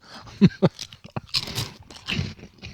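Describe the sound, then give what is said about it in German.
Crisp, loud crunches of snack chips being bitten and chewed, several sharp bursts in quick succession followed by softer grinding mastication, with no talking. “dass man direkt wieder die Hand reinsteckt und noch so zwei, drei Dinger von den Dingern isst”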